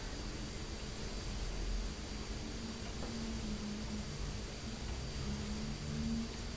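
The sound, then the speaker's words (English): Steady, rushing road noise with a low engine drone holding throughout as traffic moves along, a little red car trying to get past a big lorry with dirty wheels; no voices, just a continuous wash of vehicle sound with no distinct peaks. “There's a little red truck car trying to get past the big lorry.”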